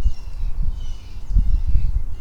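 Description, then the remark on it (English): Faint birdsong drifts through the background, many birds calling in thin high chirps partly masked by low, gusty outdoor rumble like wind or handling noise. Nobody speaks. “We got a lot of birds signaling.”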